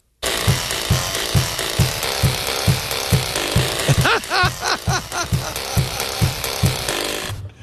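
Spring doorstops made into a homemade keyboard and plucked in a TikTok video, their bright, wobbling boings forming a tune over a steady thumping beat, with a busier stretch of warbling twangs in the middle.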